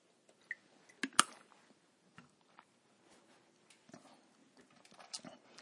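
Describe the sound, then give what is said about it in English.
Someone takes a sip of water: soft wet mouth clicks and a sharp swallow-like transient, followed by scattered faint lip and throat noises, with no talking. “Just grab a drink of water here.”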